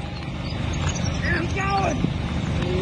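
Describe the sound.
A livestock herder on a boat during severe flooding shouts "Keep going" through a foghorn to urge swimming cattle on. His voice is harsh and amplified, over a steady rumble of boat engine and water noise.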